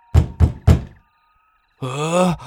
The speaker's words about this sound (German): Es klopft an der Tür.